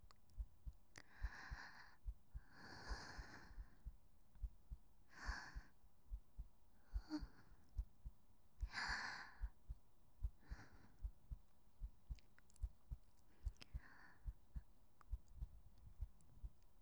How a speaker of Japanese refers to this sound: 私は心臓が喉から出てきそうなくらいドキドキです。